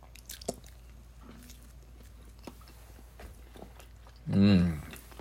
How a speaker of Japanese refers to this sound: はい、ではいただきます。咀嚼音がしますのでご注意ください。